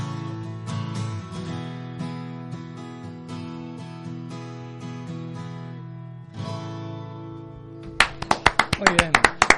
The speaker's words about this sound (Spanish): Eran siempre pobres los aplausos, bien, bien. Pero es que estamos cuatro aquí.